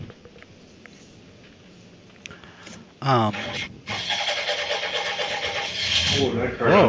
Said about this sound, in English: That was definitely not the Viper. That sounded like a muscle car. Like a muscle car.